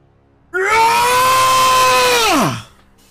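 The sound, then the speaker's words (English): A single loud, sustained scream of a dying character holds steady for about two seconds as its neck is ripped out, then its pitch drops sharply and it dies away. No talking accompanies it. “And then a mighty scream fades.”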